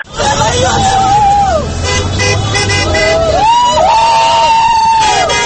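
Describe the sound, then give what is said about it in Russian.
A noisy outdoor crowd at a car rally cheers and lets out long, wavering whistles as the cars set off, over a steady background of traffic, with car horns tooting and voices babbling throughout. “И эти же люди потом, когда эти машины тронулись, наконец, в автопробег, махали и свистели, и приветствовали.”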